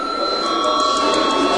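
A parliament chamber bell, rung at the chair's request before a vote on a proposal, rings steadily for the whole stretch, a loud, continuous electric ring with sustained high tones and a buzzing, metallic edge that never pauses.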